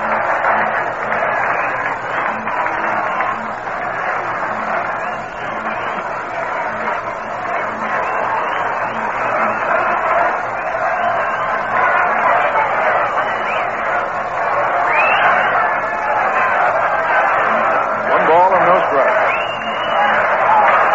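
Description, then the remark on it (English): A large baseball stadium crowd at a Mets game roars continuously in the last half of the eighth inning with the tying run on and nobody out, a dense wash of voices, shouts and cheers that swells louder and more excited in the last few seconds. “Crowd starting to pick up momentum now as the Mets have the tying run on.”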